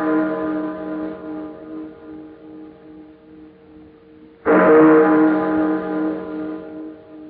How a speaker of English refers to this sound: I've been caring for these chimes nearly 20 years now. And this is the first time I ever know them to ring late. And on Christmas Eve, too.